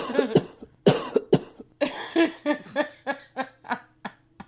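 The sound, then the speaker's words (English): A person coughs in a long fit of sharp bursts, a cluster of heavy ones at first and then a quicker run of lighter coughs that gradually fade. “I'm just gonna have to cough on that one.”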